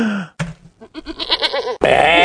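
A goat bleats loudly and close by, a few short quavering cries followed by a longer, strained, wavering bleat that ends abruptly.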